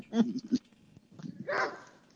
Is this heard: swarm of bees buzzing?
no